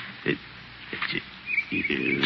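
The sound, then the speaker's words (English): Footsteps crunch and rustle through dry leaves as someone sneaks up behind a tree: several uneven steps, each a short crackly burst, with the last few running together into a longer shuffle. A faint chirp sounds in the background. “Darn dry leaves make a lot of noise.”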